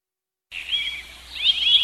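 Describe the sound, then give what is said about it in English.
A flock of birds flying in chirps and twitters loudly after a short silence, their overlapping high calls building and growing more insistent toward the end, with no voices present. “Ooh, loud birds flying in.”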